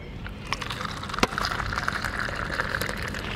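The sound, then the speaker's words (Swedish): Coffee being poured into cups, a steady splashing trickle with a brief clink partway through, set against a busy outdoor background, in sunshine opposite the Handelshögskolan, served free to passers-by. “som i detta nu häller upp koppar till de som kommer förbi och vill prata med oss om kaffepriset i radion”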